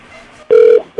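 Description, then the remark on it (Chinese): A steady electronic ringback tone sounds on an outgoing call to a friend's phone number, one long burst lasting about a third of a second, then a pause before the next burst begins, clear. “希望是这个电话号码他还有在用。”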